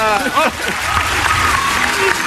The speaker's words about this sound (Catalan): I és molt de demanar aplaudiments.